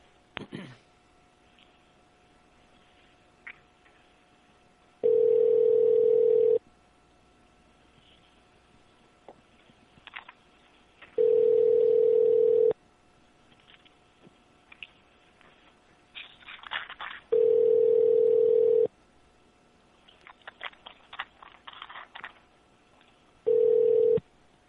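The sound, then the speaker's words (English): A phone call to Best Buy rings out, with four steady ringback tones repeating about every six seconds and quiet gaps between them, plus faint clicks and line noise. No one picks up. “He's calling Best Buy now.”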